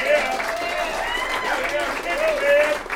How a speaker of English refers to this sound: And I'd like a round of applause